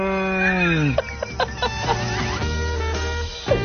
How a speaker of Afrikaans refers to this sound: Oh my goodness, come on! Waar kom jy aan die goed? Dit is regte koei.